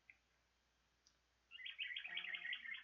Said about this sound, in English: Birds.